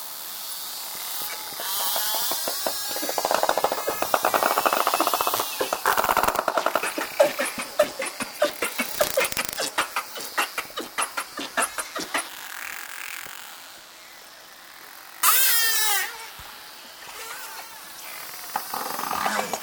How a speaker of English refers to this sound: They use a series of clicks for echolocation to find prey and communicate. This dolphin pod was recorded in Milford Sound, New Zealand, by Dr. Oliver Boisseau for the British Library CD, ….